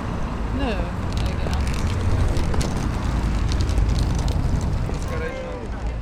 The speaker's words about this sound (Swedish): Nu har vi äntligen tagit oss över den här bullriga korsningen och kommer ner på Strömkajen.